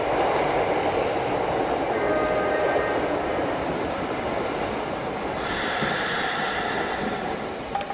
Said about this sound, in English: Votre attention, s'il vous plaît. Le train en provenance de Marseille arrive en gare sur la voie 10. Achtung, Achtung! Der Zug von Marseille kommt in gleich 10.